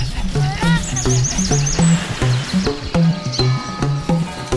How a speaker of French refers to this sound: Avec tous ces oiseaux à la con